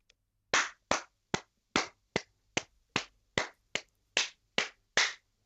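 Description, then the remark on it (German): About a dozen sharp hand claps in a steady rhythm with a couple of quicker pairs, clapped out on request, fairly loud, with silence between each clap and no talking. “Klatschen, dann klatsch mal den Rhythmus.”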